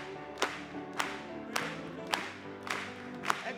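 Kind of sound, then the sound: crowd, audience applauding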